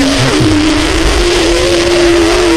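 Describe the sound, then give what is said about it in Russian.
A man imitates a mosquito with one loud, continuous low buzz that holds a fairly steady pitch and creeps slightly upward, over a rough, hissy background, with no talking. “Это шарик бы, я пытался комара изобразить.”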